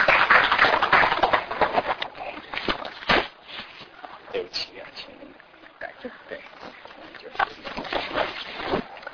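An audience applauds to welcome a speaker giving a testimony talk, a dense burst of many hands clapping that is loudest in the first few seconds, then thins into softer, scattered claps that continue until the end.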